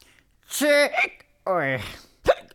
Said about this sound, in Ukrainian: Ой. На тебе напала гикавка.